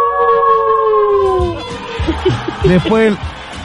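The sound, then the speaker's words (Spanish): A voice imitates a wolf howl with one long, high, wavering tone that slowly sinks in pitch, then breaks off into bursts of laughter and chuckling. “Yo tengo el del lobo. ¿Cuál es el? Ese que dice ¡au!”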